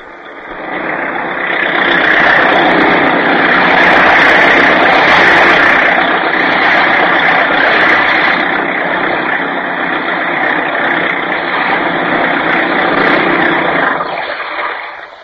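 A fast motorboat fitted with a new supercharger, top speed 40 miles an hour, its engine roaring steadily and loudly throughout, its drone mixed with the hiss and rush of water, holding an even level from start to finish with no voices.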